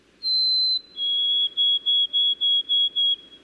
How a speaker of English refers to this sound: Sometimes birds change their tune. For example, white-throated sparrows in many areas have shortened their songs in just a few decades.